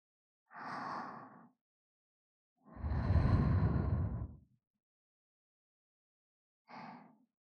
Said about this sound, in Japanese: いかがでしょう。悪魔の吐息を、声を、先ほどよりも感じますか。